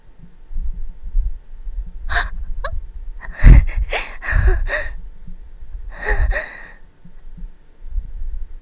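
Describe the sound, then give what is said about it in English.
A finger wetted with the mouth rubs along an ear, producing a handful of short, scratchy, muffled swishes with low rumbling thumps between them. No one speaks. “Going to kind of rub my finger along my ear a little bit.”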